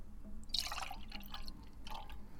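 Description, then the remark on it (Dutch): A little chilled white wine is poured into a glass, a quiet, uneven trickle and splash that swells early on, then returns in softer spurts. Nobody speaks. “Ik heb hier een witte wijn”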